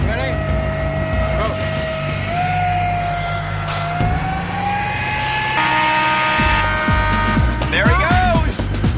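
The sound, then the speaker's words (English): A jet-powered vehicle engine roars loudly, its high turbine whine climbing in pitch as it revs, then surging again over a constant rumbling drone. “It really does sound like a jet engine.”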